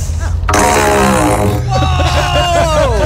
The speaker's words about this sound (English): I have this PVC pipe and I'm going to fart in it. She has a long, like 6 foot PVC pipe. Nice. Pointed right at the microphone.